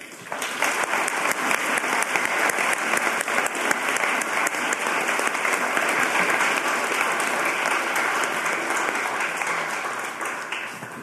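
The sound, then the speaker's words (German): Sustained applause from an audience at a debate on whether to ban circumcision, a dense wash of many hands clapping at steady volume for about eleven seconds, easing slightly near the end, with no voices. “Sie klatschen jedenfalls aus meiner Perspektive hier ungefähr gleich laut für ganz unterschiedliche Positionen.”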